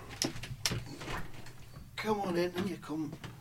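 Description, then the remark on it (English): Two sharp clicks, like a latch and handle as a door is opened to let in someone waiting outside, followed by a voice speaking over a low background hum. “You're going to let him open the door?”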